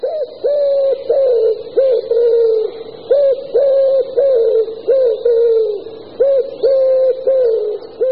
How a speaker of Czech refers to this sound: Asi si tipnete správně, že se jedná o holuba, máte přeci zkušenosti s domácími nebo s divočelými holuby z měst i z venkova. A i když tento hlas zní velice podobně, tak zde se jedná o jiný druh. Nebudu vás unavovat hádáním, je to holub hřivnáč.